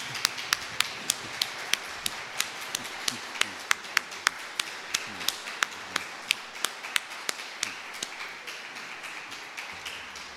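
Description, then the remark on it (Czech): An audience claps for a choir after its singing, in steady unison, sharp even claps at a brisk regular rhythm over a soft wash of background noise, continuing without pause for about ten seconds. “Děkujeme, zatleskáme, co říkáte.”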